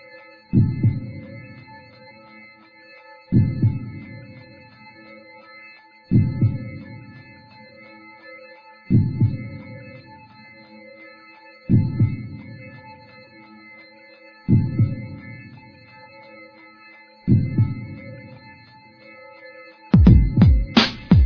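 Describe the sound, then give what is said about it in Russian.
A deep, muffled heartbeat thumps slowly and evenly, about eight beats, over a steady droning hum, with a louder flurry of pulses at the very end. “Заменял пустые полосы сердцебиением”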